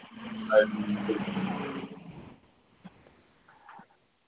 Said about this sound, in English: So, someone, hey, who's got traffic going on in the background? Is someone at the Indianapolis 500?